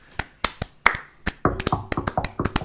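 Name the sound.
hand clapping applause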